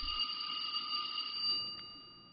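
A bell rings with a steady, sustained electronic tone, held for a couple of seconds at moderate volume with no voices, trailing off slightly at the end.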